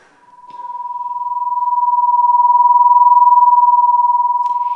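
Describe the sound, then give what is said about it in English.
A steady, loud tone near one pitch with a rapid, regular throbbing wobble in loudness, the sound of two close tones beating against each other, sustained for several seconds with no talking. “In these illustrations, the sound waves start at the same point, and depending on the difference in frequency, the sounds are either in unison or they are out of tune.”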